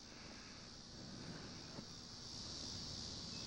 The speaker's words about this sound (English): Crickets from my old yard.